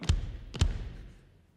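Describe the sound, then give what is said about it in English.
Two heavy, booming low thumps of a big kick drum, about half a second apart, each with a sharp attack and a short fading tail, during a clap-and-stomp sing-along. No one speaks. “You guys probably hear, did you hear that? Like, you know, like the big kick drum comes in.”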